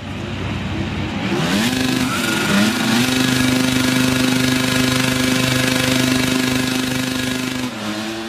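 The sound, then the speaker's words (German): Racing motorcycle engines roar loud at the start of the Grand Prix of the Americas in the MotoGP 26 video game, revving upward in pitch, then holding a sustained high-pitched drone before easing off briefly near the end. No one speaks. “Hallo da draußen und herzlich willkommen, hier ist Game Feature und natürlich wieder mit einem Motorradspiel”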